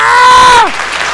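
A brief burst of audience applause for a doctor after a performance, a dense crackling clatter, with a loud sustained tone that bends downward in pitch and fades partway through.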